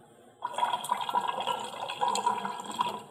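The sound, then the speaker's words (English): Clear water pours steadily into a container for about three seconds, a continuous splashing, gurgling stream that starts abruptly, with no talking over it. “You know, you look at this is clear water, but you're like, hey, I'm not clear water.”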